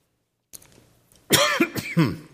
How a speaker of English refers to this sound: I didn't cough all night long. I'm sad I'm going to cough now.